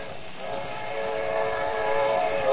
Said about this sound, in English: Now I'll drive across the tracks. Now, be careful, Kelowna. There's a train coming.